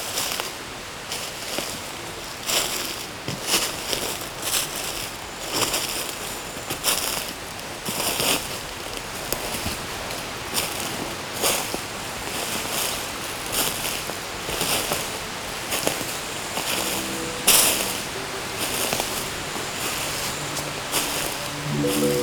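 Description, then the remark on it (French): In a deciduous forest in summer, a steady outdoor wash of stream water trickling below mixes with leaves rustling in a light breeze, full, with frequent soft crackles and gusts and no one speaking. “Odeur de terre humide, brise du vent qui se marie au clapotis, plutôt au ruissellement de l'eau en contrebas de l'ombre.”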